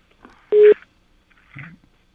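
A telephone ringback tone over the line: one short, loud electronic tone burst, followed about a second later by a fainter, briefer pulse. No one speaks.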